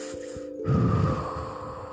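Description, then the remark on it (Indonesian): An audible breath drawn in through the nose during a guided relaxation breathing exercise, then a slower, softer release of air, over a faint steady tonal hum in the background. “Tarik nafas, masuk lewat hidung, tahan di perut, tahan, keluarkan pelan-pelan.”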